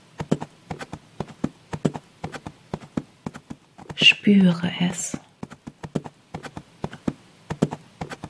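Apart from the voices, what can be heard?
horse hooves clip-clopping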